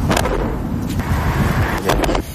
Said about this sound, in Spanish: Es la interceptación de esos cohetes que se siguen lanzando también desde la franja hasta esta ciudad, que es la más cercana a esa localidad.